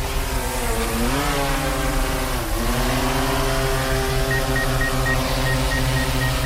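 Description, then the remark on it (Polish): Car traffic at a signalized intersection with a green arrow and red light on Batorego Street, where drivers' behaviour is being studied: a steady, loud engine rumble whose pitch rises and dips as vehicles pull away and slow, with no talking over it. “W tej chwili badamy zachowanie kierowców na skrzyżowaniu z sygnalizacją świetlną.”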